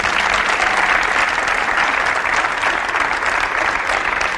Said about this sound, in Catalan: som a l'auditori de l'edifici D-Factory del Consorci de la Zona Franca i avui farem el darrer dels capítols de RAC & Go en públic, que ens ha volgut acompanyar. A veure si s'escolta aquest aplaudiment, que es noti la presència del públic.